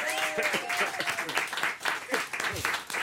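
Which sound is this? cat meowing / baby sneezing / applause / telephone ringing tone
applause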